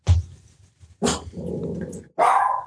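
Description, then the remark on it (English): A dog lets out a few sharp barks separated by short gaps, with a low, rumbling growl between them, loud and clear with no talking. “Our deuce has bark.”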